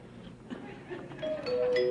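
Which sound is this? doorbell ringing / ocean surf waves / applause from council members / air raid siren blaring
doorbell ringing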